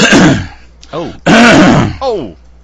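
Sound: coughing and throat clearing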